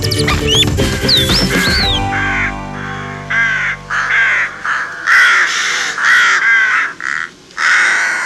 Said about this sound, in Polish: W dzisiejszym odcinku trochę mniej pięknego ptasiego śpiewania, a więcej krakania. Czy wszystko czarne, co pojawia się na naszym niebie i kracze, to wrona?